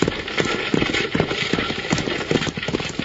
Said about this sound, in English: You can't do that! These horses are running away!